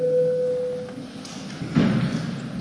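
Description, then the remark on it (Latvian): A parliament's electronic vote bell sounds as a steady, clear tone for about a second, then fades, followed by a soft thud amid quiet room noise; it calls members to vote on a bill amending the compulsory motor vehicle owners' liability insurance law in first reading. “Tad, kolēģi, jābalso. Lūdzu zvanu.”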